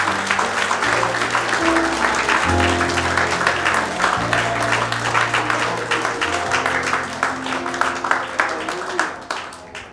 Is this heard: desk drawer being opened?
no